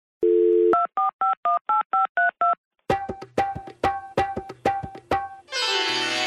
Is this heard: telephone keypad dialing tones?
yes